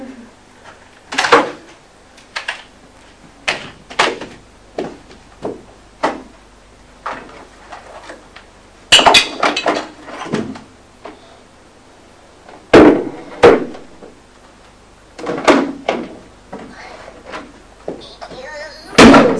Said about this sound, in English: Shut the door. Yes, the door's shut.